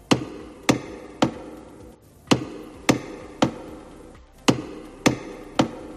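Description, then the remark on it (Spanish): Nine loud, sharp knocks strike the heavy Door of Forgiveness (Puerta del Perdón) of the Monastery of Santo Toribio de Liébana in three evenly spaced sets of three, ceremonially opening it for the jubilee year; each blow rings briefly, with no talking. “Y terminamos no sin olvidar que ayer se abría de esta manera la Puerta del Perdón en el Monasterio de Santo Toribio de Liébana.”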